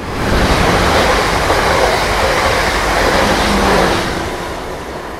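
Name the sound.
train running on rails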